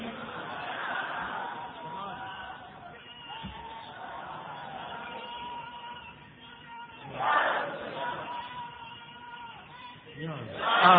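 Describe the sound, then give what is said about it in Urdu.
A large crowd at a religious address chants religious slogans in loud, swelling waves of many voices, with a sustained roar of babble between bursts and a sharp peak of shouting near the end. “بھائی نعرے ذرا کم لگائیے, سبحان اللہ اگر جذبہ آ جائے, سبحان اللہ کہہ دیجیے, حضرت کا خطاب کو سیدھی سنیں, نعرے ذرا کم لگائیے.”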